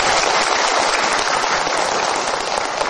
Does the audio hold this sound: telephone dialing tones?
no